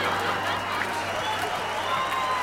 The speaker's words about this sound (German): Das Publikum rast vor Begeisterung. Sie halten sich die Bäuche. So eine Clownnummer haben sie alle noch nie gesehen.